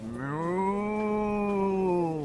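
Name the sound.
cow mooing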